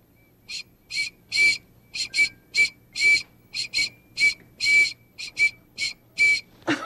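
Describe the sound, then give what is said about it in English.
A whistle is blown over and over in quick, uneven bursts, about fifteen shrill, breathy toots in seven seconds, some short and some held a bit longer, loud with no talking. “Whistle kerchief, do your job.”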